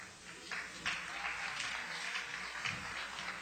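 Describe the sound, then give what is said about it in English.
An audience breaks into applause, a dense, steady patter of many hands clapping together that holds at an even level for several seconds, with no one speaking over it. “You didn't get my intention. My intention wasn't for you to applaud.”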